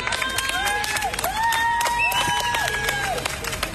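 A crowd of residents along the River Thames cheers and claps for swimmers, with rising whoops and shouts over steady applause and background chatter, lively throughout.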